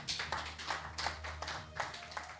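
A crowd claps its hands in a loose, fairly steady rhythm, the sharp bursts blending together, with a low hum underneath and no one speaking.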